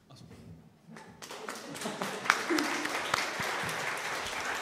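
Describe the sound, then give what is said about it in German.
An audience breaks into applause, many hands clapping in a dense, sustained patter that starts thin and swells louder after the first second, continuing steadily to the end. “Achso, jetzt wollte ich eigentlich alleine für Sie klatschen.”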